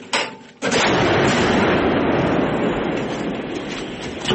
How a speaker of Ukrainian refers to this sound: сейчас это бригада «Помста», работают с зенитной установкой К-19. Она 1947 года выпуска. Вообще это зенитка, но ее используют для ударов по наземным целям.